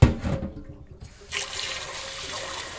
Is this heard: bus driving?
no